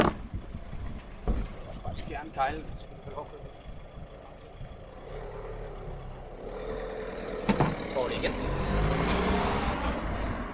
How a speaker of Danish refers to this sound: Der kom lige en Scandlines-bil, der lige skulle lukkes igennem her.